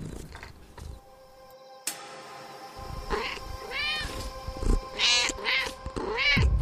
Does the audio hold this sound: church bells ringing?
no